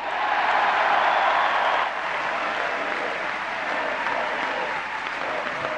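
A large crowd of convention delegates applauds Mr. Bush's hour-long speech in a dense, sustained roar of clapping, loudest for the first two seconds before easing slightly but continuing steadily to the end.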